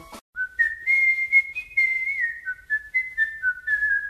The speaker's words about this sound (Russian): С тех пор, если Эрнест совсем падал духом или страдал физически, он беспечно насвистывал, желая показать всем на свете, что происходящее с ним – ерунда.